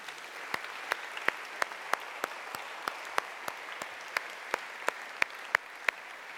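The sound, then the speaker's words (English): A church audience applauds the standing clergy and evangelists for several seconds, a dense wash of clapping with a few sharper individual claps standing out in an even, regular rhythm. No one speaks. “It only happened once for some reason, and I would like you to give them all a round of applause.”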